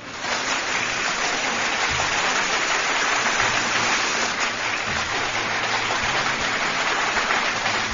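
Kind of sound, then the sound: crowd, applause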